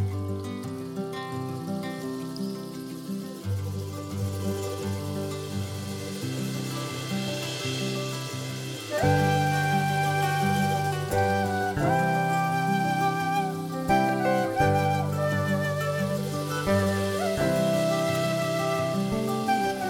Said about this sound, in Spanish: Esta música que es bien de la puna salteña. Compartimos un poco de esto y ya seguimos hablando.